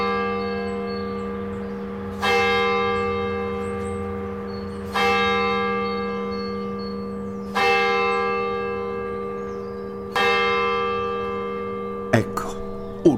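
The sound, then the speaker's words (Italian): A church bell tolls four slow, evenly spaced strikes, each ringing out clearly and fading before the next, over a steady low hum, followed by a couple of brief sharp clicks. “aprì gli occhi al primo rintocco e sapete bene che non gli succedeva mai.”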